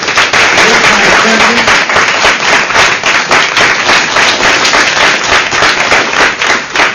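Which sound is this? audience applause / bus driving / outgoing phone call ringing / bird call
audience applause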